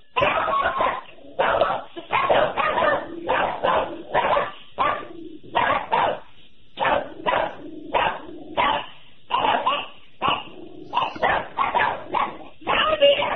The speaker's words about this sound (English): What was that again, please? I think that's a bark. I think so, too. Let me hear that again. Come on, bark it up.